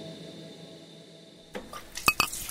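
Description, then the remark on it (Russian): After a quiet hush, soft clatter leads into two quick, bright glass clinks with a ringing tone as someone takes a sip of coffee in a café in Italy, followed by faint handling sounds. “Я делаю глоток и понимаю, что этот миг я уже не забуду никогда.”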